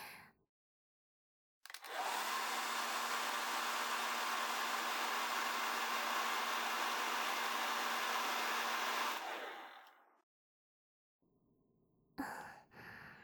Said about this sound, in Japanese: あとはガーッとドライヤーをかけちゃいます。